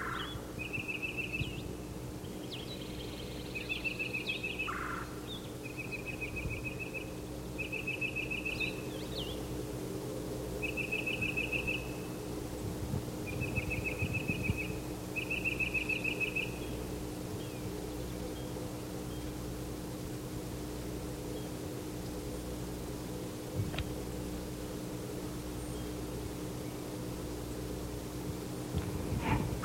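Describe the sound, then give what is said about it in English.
A titmouse marked yellow, in a tree and pumping its tail as it calls while getting an answer, gives a series of short, high, buzzy-whistled phrases, about seven in a row over the first sixteen seconds, over a steady low hum and hiss of background noise. “He's pumping his tail while he calls. There are two other titmice in the same tree.”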